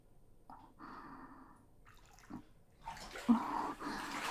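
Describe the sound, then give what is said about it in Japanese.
Water sloshes in a bathtub: a few soft splashes and drips at first, then a louder, sustained surge of sloshing toward the end as someone gets out of the bath. No one speaks. “あれ、もう上がるの？もうちょっと一緒にゆっくりしようよ。”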